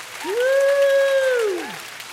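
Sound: audience clapping hands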